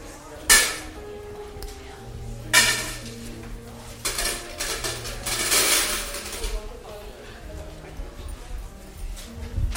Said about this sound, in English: Is there one more person that wants to collect noisy offering? Get your coins ready.